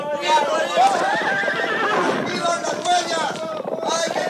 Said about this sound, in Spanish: Los 2 primeros caballos habían tropezado con la cuerda y se encontraban ya en el suelo al lado de sus jinetes, medio enterrados en el polvo. Los otros 3 caballos tampoco pudieron frenar a tiempo y rodaron detrás de los primeros.